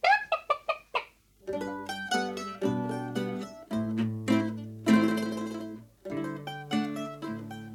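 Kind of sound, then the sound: bird, hen clucking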